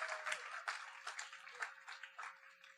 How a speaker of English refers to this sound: If you believe that, would you give the Lord a hand clap for that today?